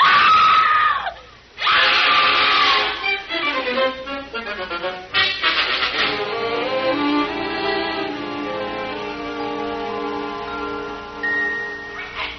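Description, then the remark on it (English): A woman, a man's wife, screams loudly and at length on seeing him, her shrill, sustained cries wavering in pitch with only brief breaths between them, alone with no talking. “Oh, by the way, when my wife sees me, she'll start screaming, but just don't pay any attention.”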